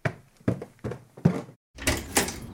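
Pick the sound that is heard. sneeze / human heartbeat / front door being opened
front door being opened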